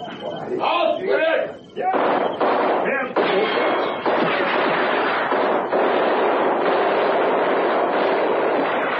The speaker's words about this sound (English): And then we realized the guns were not being fired in our direction. About 300 meters away, a skirmish was being fought between a German